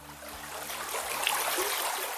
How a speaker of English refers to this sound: The headwaters of the Yakima River begin high up in the Cascade Mountains, here at a stream called Gold Creek.